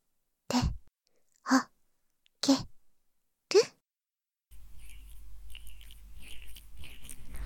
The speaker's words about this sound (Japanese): オイルのちょっと粘り気を感じる水音が耳の中に届いて響くよね。その音がとっても気持ちいいよね。